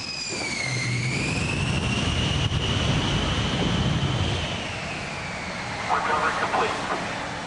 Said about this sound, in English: As if that backdrop weren't dramatic enough, the president, who was a pilot in the Texas National Guard, landed on the ship in the co-pilot's seat of a Navy jet.